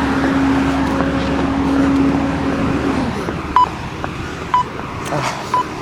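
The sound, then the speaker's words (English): A freight truck rumbles past on the road by a local convenience store in the morning, its low droning engine loud for a few seconds before easing off, followed by three short electronic beeps over steady traffic noise. “You hear a freight truck here at the local Munchies convenience store, and it's just a bit louder than I would like in the world this morning.”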